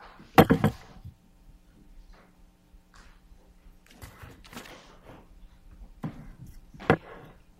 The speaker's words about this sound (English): Your Honor, would it be okay if I move the chair to the side where she would? Yes. Thank you.